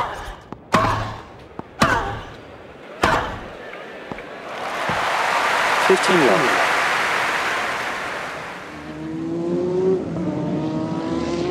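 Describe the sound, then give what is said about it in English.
Three sharp slams open, then a broad roar of NASCAR race car engines at a half-mile oval with very high banking builds and sweeps past, with pitch-shifting engine whines as cars pass before the noise fades slightly. The cars put out about 140 decibels. “I was doing American car racing, they call it NASCAR, and this particular race was a half-mile oval, and essentially what would be considered a football-type stadium with very high banking.”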